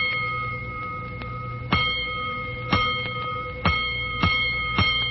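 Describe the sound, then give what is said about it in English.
A fire station alarm gong rings out during the night, struck in a tapped pattern of about five sharp, clanging hits over a steady metallic ringing tone, with no voices. “Twice more, soon after the now raging firemen returned to quarters, the great gong that sounds alarms tapped in during the night rings out.”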